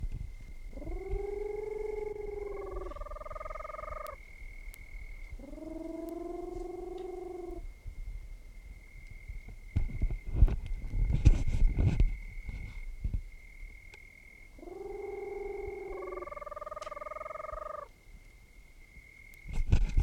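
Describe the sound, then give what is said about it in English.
A Peruvian screech owl of the Otis robureta subspecies, at Pirineus, Department of Piura, Peru, gives three bouts of hollow, tonal hoots, each a short phrase stepping up in pitch. A thin steady whine runs throughout, and a burst of crackling noise sits between bouts. “Both of the previous birds were collected at Pirineus, Department of Piura, Peru, Otis robureta subspecies.”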